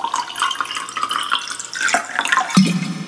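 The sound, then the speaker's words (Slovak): Steady splashing of sparkling mineral water being poured into a glass, a bright fizzy hiss running throughout with a few brief gurgles near the end, no voices. “Môžem vás poprosiť, dajme si pauzičku, hodinku máme skoro za sebou, dajme si pauzičku, napíme sa do... Výborné.”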